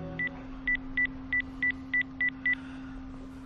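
A quick series of eight short, even-paced touch-tone beeps as a number is keyed in, clear over a faint steady hum, with no one speaking.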